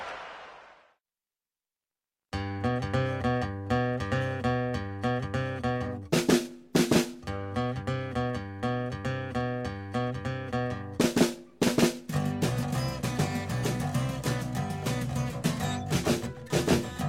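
rock song playing

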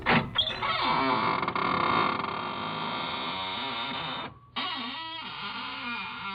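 squeaking door creaking open

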